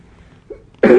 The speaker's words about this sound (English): And unfortunately, from time to time, coughing may happen, so please just tolerate.